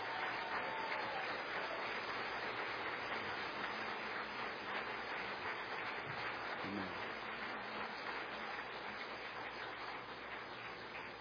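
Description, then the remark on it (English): An audience applauds the people who have just performed, and the Lord, in a steady, dense wash of clapping that holds at an even level for about eleven seconds, with no one speaking over it. “God bless you, and we told you we'd want you to hold your applause, but if you'd like to tell these folks how much you appreciate what they did, and the Lord, how much you appreciated him, just give them a hand.”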